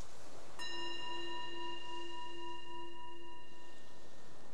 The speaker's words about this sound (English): The bell is the invitation to bring the awareness back to the surface again, to your surroundings, and just reflect on how that was, responding to open questions, letting the mind work with each one.